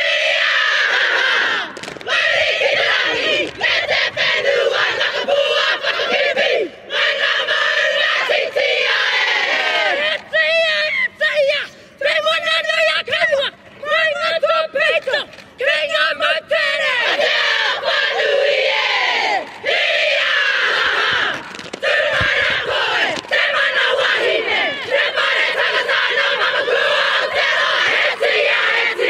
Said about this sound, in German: Oh, es ist der Hammer, also eine Haka, googelt das, YouTubet das mal und schaut euch mal so ein paar Hackers an, aber am besten mit Sound und das ist ein interessantes Erlebnis.